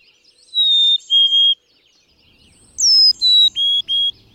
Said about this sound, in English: you'll find that the birds' contact calls sound different, too. Black-capped chickadees actually seem to say chickadee, while Carolinas blurt their name much faster and at a higher pitch.